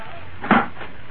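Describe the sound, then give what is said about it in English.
A door swings shut with a single short, solid thud midway through, moderately loud, with no voices. “All right, Bascom, you can shut the door now.”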